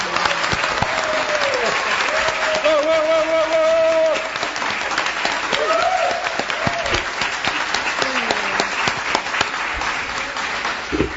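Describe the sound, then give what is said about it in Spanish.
A crowd at a public panel discussion in La Floresta claps steadily for about eleven seconds for a woman on the panel, a dense roar of hands, with a few voices calling out and cheering over the applause. “tuvo una muy buena representación de todos ustedes de la Floresta en esta mesa, les voy a pedir un aplauso para ella, que se lo merece.”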